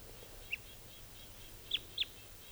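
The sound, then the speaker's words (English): A type 2 red crossbill gives short, high alternate call notes: one single note, then a quick pair about a second later. The calls are clear over a low background rumble, and no one speaks. “There's the alternate type 2 call.”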